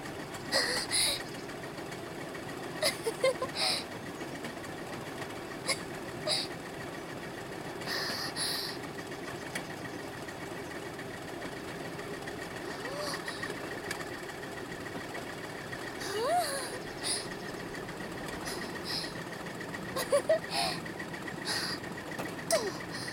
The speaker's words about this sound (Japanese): 結構レールぐいぐい掴んで走ってるべさ。